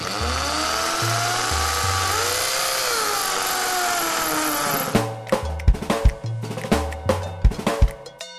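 A power drill whirs steadily, its motor pitch rising and falling for several seconds, then gives way to a run of sharp, irregular bursts and knocks, fairly loud.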